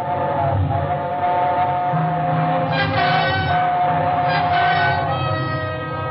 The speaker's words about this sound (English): It was only the train going through the tunnel, but it brought it all back. A scream and the train roaring by, the whole house shaking.